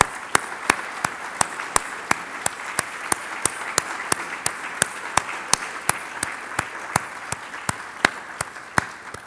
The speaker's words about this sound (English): So I would like to give them one more round of applause in appreciation.